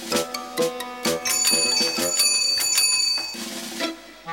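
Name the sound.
bicycle bell ringing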